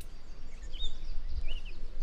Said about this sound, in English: And then the red-winged blackbirds. Those are in abundance here. They're really loud.